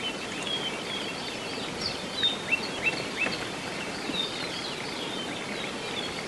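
birds singing

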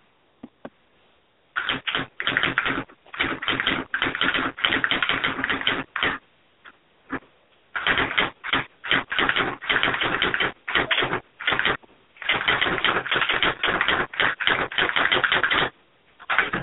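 typewriter typing

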